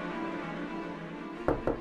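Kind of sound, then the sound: impact, knocking on a door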